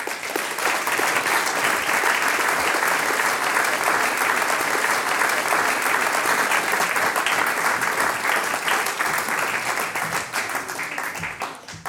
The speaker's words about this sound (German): ich darf dich mit einem großen Applaus zu mir auf die Bühne bitten.